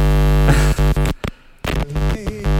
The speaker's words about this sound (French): Ah. C'est du morse.